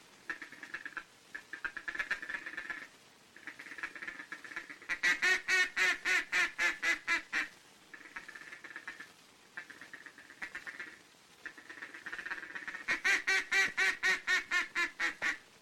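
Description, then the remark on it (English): A duck call mimics a hen mallard's soft, rapid feeding chatter, made with the tongue by blowing the word 'ticket' softly and very rapidly, broken by two bursts of loud, evenly spaced quacks, with no talking. “It's the confidential chatter of a hen mallard mixed with an occasional optimistic quack, quack, quack”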